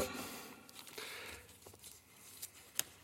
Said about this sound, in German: Kleinen Moment, ich muss noch einen Moment kramen hier bei meinem vielen Papier.